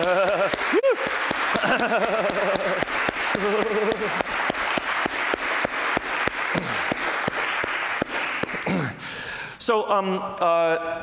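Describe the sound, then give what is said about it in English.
A conference audience applauds the organizers at the last talk of the conference, with steady, dense clapping that lasts about ten seconds, while voices call out and talk over it, growing clearer as the clapping fades at the end. “In fact, let me just, since you just thanked the secretaries, I think we should give a round of applause for the actual organizers of this talk right now.”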